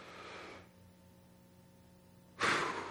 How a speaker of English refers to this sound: I actually want you to take a deep breath right now with me. Well, you all did it at different times. We're going to do this on the count of three. We're going to command your breathing, all right? So take a pause, breathe out. Everyone, breathe in.